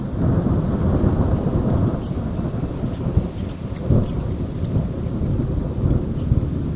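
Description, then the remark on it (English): A heavy thunderstorm at a reserve in King Country, in the centre of North Island, New Zealand: steady, dense rain hisses throughout while deep thunder rumbles and rolls continuously underneath, swelling briefly louder. No voices are present. “I actually went to record the birds, but I got caught in this tremendous thunderstorm.”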